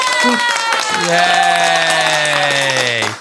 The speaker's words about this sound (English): You know what? I think that warrants, do I have my little soundboard here? I think that warrants another applause, because we did it.